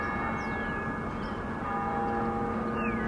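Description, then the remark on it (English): Chimes from the old MetLife bell tower ring out in a steady, sustained wash, their long tones overlapping and hanging in the air, with no voices present. The bells ring every 15 minutes. “The bells in the tower ring every 15 minutes.”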